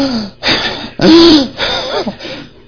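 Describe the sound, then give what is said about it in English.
A voice imitates labored, asthmatic breathing: a series of strained, wheezing gasps and raspy inhalations, fairly loud, with short pauses between the effortful breaths. “When prayer is a strain, have you seen people with asthma?”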